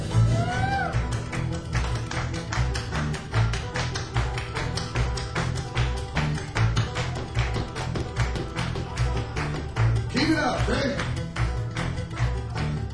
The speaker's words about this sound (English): Let's get some clapping, ready?